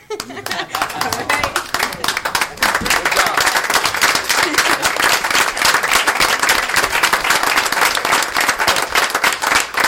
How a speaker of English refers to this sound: Actually, I was just going to, real simple, through you, Your Honor, ask our entire room to stand up and applaud our city.